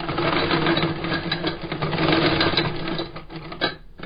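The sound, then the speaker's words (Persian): An old sewing machine, handed down from a shoemaker's father, stitches shoe leather, running steadily with a fast, rattling mechanical chatter and a low hum, its rhythmic clatter continuing for several seconds before briefly easing near the end. “با این ماشین چرم کفش ها را می دوزد.”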